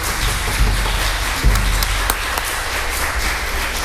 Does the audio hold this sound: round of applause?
yes